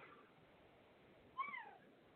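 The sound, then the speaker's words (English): A cat gives a single short meow, rising and then falling in pitch, heard faintly against a soft background hiss with no one talking. “Is that the kitty?”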